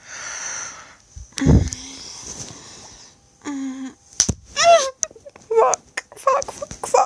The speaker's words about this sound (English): Oh, I'm gonna slap myself now, just as hard as I want it.